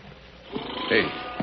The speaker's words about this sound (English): Hey, that's coming from the Box Canyon over there. The cattle sound plenty scared. That cat must be in there with him. Sure sounds that way.